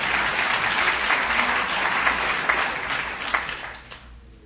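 A crowd applauds steadily, a dense rush of many hands clapping at once with no voices on top, holding strong before fading out in the final second.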